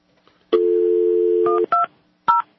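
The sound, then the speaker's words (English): A steady telephone dial tone hums for about a second, then three short touch-tone dialing beeps follow at uneven intervals as someone calls a U.S. senator's office in Washington, clear with no one speaking. “Some of these congressional offices, they actually pick up the phone before it rings.”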